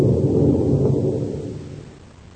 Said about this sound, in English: Gee, look at that rain cover. What? It's a regular cloud burst. Yes, it's a bad tropical storm,